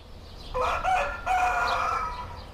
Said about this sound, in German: Für einen Großstädter ist es immer etwas Besonderes, wenn ihn der Hahn auf dem Land weckt. Entlang der Werra gibt es viele kleine Dörfer, in denen einem das noch passieren kann. Ich erlebe es im hessischen Schwebda, am Ostufer des Werratalsees.